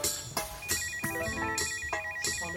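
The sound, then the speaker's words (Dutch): An iPhone ringtone plays, a bright electronic melody of repeated tonal notes with regular sharp onsets, fairly loud, with no one speaking. “De telefoon. Hij ging net wel af.”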